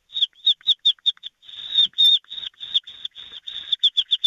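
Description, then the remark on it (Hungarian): A voice imitates a little chick with rapid, high-pitched peeping chirps, first in short separate bursts, then a run of longer drawn-out peeps, ending with quick repeated cheeps. “Na, gyorsan egy kis csirke, kis csirke.”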